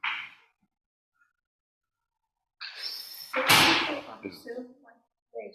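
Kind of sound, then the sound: household object, door being closed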